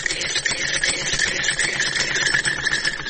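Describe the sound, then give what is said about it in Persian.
An old sewing machine, used to sew clothes for customers, runs steadily, a fast, continuous mechanical whir with a dense rattling rhythm and a bright, buzzy edge, holding an even loudness throughout with no voices. “این همین لباسایی را که می بینیم بند است، تمامش توسط از این ماشین دوختیم که از مشتری ها هست.”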